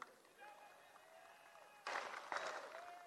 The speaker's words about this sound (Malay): Tapi alhamdulillah, Menteri Pelajaran nampak dapat banyak tepukan. Demikian juga Puan Rina Harun. Saya juga khawatir. Tapi akhirnya dapat tepukan juga.